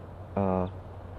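A single loud, low tooting note from a female bird, about a third of a second long, steady and rich in harmonics, over a faint background hum.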